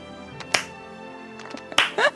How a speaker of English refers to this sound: The slow clap, yep. And the first people clapping are the people who've been the most awful to them.